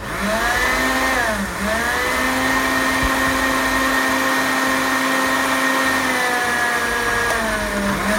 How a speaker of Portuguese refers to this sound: Água mineral e um pedacinho de cúrcuma fresca. Eu tô aqui com a cúrcuma fresca, o açafrão, tá bom? Se você não achar fresco, não tem problema nenhum. Você usa uma colher de chá de açafrão em pó, tá? Bota aí no liquidificador também e vamos bater!